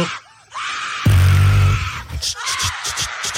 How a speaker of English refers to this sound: The longest scream. Mm-hmm. Ever.